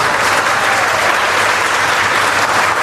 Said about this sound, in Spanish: A ver, ¿quién le da un aplauso a la Virgen de Chiquinquirá hoy?